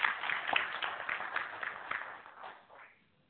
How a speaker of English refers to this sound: So please join me in a round of applause and appreciation for today's presentation.